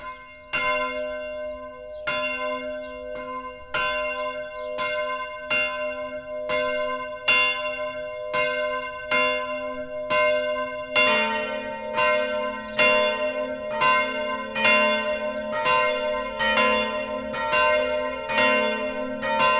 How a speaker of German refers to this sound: Es ist 12 Uhr. Das Mittagsläuten kommt heute von der evangelischen Ottilienkirche im mittelfränkischen Pfaffenhofen.